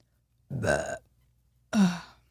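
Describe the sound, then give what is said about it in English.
Two loud burps after eating jelly beans, each about half a second long with a deep, rumbling, throaty tone, separated by a brief pause in otherwise quiet surroundings. “I love how the burp like sealed the deal on that one.”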